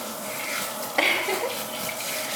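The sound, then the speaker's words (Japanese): Steady hiss of a shower running as something is rinsed, water spraying continuously with a brief splashy surge partway through as the flow hits something. No talking. “もうね、まずめっちゃツルツルするので、シャワーの音しますよ。”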